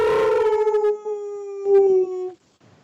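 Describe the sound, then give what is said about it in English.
A person howls like a wolf in one long, loud wail that slides slowly downward in pitch, then cuts off abruptly, leaving faint background noise. “People are howling outside my doors.”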